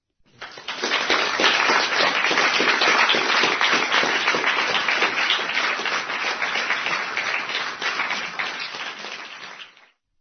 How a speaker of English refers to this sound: So we shall all give a loud round of applause to Brother Sai Krishna.